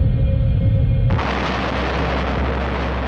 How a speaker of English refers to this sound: In 1908, on June the 30th, there was a massive explosion over Siberia. The region of Tunguska sees the biggest explosion in human history.